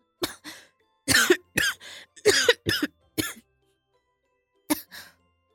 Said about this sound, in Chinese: 正低着头喝汤的老公却大力地咳嗽了起来。